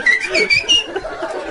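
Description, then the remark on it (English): A person whistles a quick, warbling tune in a few short bursts, moderately loud, with no talking. “You just run around yelling shit and whistling.”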